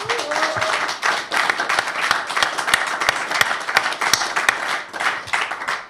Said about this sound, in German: Bitte Applaus für unsere Gäste.